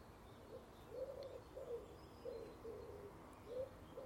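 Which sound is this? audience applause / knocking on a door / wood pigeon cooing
wood pigeon cooing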